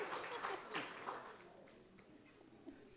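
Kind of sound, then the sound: crowd, audience clapping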